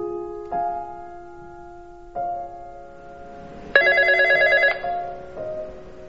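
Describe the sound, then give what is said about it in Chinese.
A telephone rings with an electronic melody of sustained, stepped tones, swelling into a brighter, louder burst midway before settling again; the ringing is clear, with no voices. “接一下电话。”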